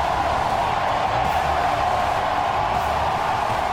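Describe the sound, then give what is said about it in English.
A crowd of almost 40,000 fans at Safeco Field gives pitcher Felix Hernandez a sustained ovation as he leaves after 7-plus innings, a dense, steady roar of cheering and applause that holds at an even loudness throughout, with no voices standing out. “Here's the ovation for the King.”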